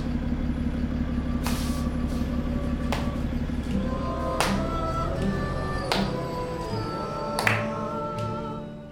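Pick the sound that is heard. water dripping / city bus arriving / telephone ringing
city bus arriving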